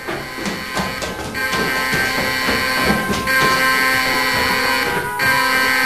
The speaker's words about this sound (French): Tout d'un coup, une alarme retentit.